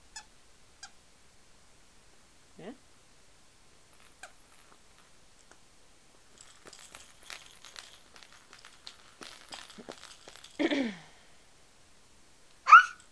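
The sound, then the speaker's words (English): An orange squeaky dog toy gives a few short, high squeals amid soft crinkling and rustling, ending with one sharp, loud squeak. No one speaks. “No, this is the one that squeaks, the orange one.”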